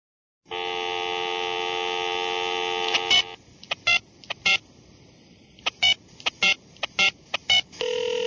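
A steady telephone dial tone hums for a few seconds, then gives way to a quick, uneven series of touch-tone beeps as a phone number from a Craigslist list of people with rooms for rent is dialed, clear with no talking.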